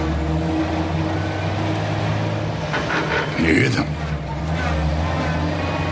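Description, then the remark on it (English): Heavy trucks rumble past on a city street, a steady low engine drone with a brief louder surge of passing traffic midway, while a person speaks over the noise. “Do you hear them? The trucks don't care.”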